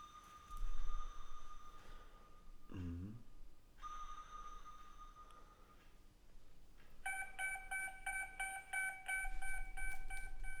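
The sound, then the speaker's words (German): A submarine-style sound effect with a low rumbling bed, steady tonal hums, a descending sweep, and then a rapid series of bright, repeated electronic pings that grow busier toward the end. “Dings machen mit unserem normalen U-Boot-Sound.”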